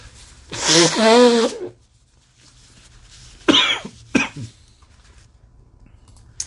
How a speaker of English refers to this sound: Okay. Sorry about that. I had to blow my nose. Of course, you didn't hear it, but it was recorded on the recording.